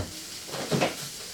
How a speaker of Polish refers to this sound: Słyszymy, że zaczyna nam się wszystko smażyć ładnie.